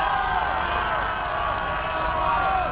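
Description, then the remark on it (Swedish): A large crowd of hundreds of people cheers and shouts in a continuous, dense roar, with scattered whoops rising out of the steady wall of voices, on Kungsgatan in Stockholm, Sweden, as people lean out of offices celebrating news of a victory. “Alla jublar och är glada.”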